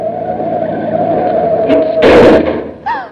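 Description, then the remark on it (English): A car engine drones steadily, then the car brakes hard to avoid a taxi cab, with a loud, harsh skid lasting about half a second, followed by a brief wavering squeal as the car stops. “Would you have preferred to have me run into that taxi cab or stop quickly?”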